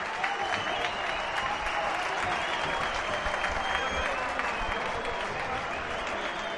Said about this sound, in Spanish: Vamos a escuchar la ovación al último partido de Álvaro.